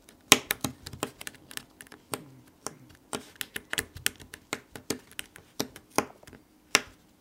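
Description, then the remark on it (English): Quick, irregular sharp clicks and taps of a stylus punching braille dots into paper to write a note about a doctor's appointment, continuing steadily for several seconds with no talking. “I'll pull this out and I'll make a note to myself. Okay, well, the doctor said Tuesday at 10 o'clock, and I'll actually punch it into the paper here.”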